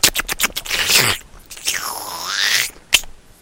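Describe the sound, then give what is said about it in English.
Loud, crunchy chewing opens with a quick run of sharp bites, then gives way to a long rustling, scraping crunch and one final hard snap, with no talking. “I see, it's very rude and impolite to eat while you're online, because it just doesn't sound cool, right?”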